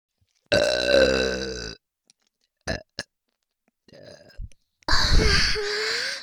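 Two long, loud, croaking burps sounding close up, separated by a few brief clicks and a short breathy gurgle, with no talking.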